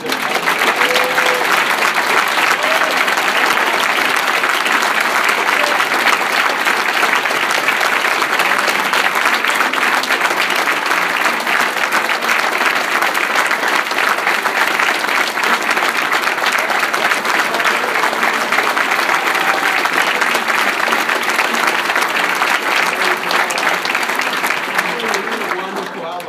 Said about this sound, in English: Let's give a applause to all these young children.